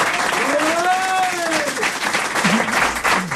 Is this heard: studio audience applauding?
yes